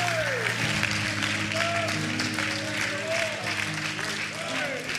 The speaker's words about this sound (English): Now let's give him one more hand clap of praise and just offer to him a sacrifice on an altar of worship. Hallelujah.